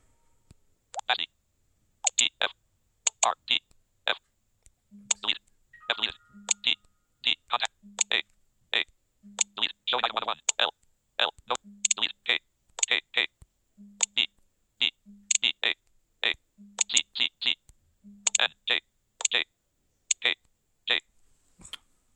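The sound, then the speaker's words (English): Typing on the Gboard touchscreen keyboard in a phone's Messages app with the TalkBack screen reader: steady taps with soft clicks and low key tones, each followed by a quick burst of synthetic speech announcing the input, repeating at an irregular pace. “Okay, we just typed in TalkBack.”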